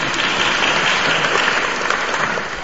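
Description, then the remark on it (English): An audience claps steadily throughout, a dense wash of many hands applauding at an even, fairly loud level with no voices rising above it. “You don't want to clap.”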